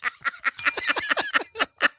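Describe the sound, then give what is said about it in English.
A small bell rung rapidly about ten times in quick, even succession, its bright ringing tone carrying through the brief chatter of strikes, moderately loud. “Just ring the damn bell”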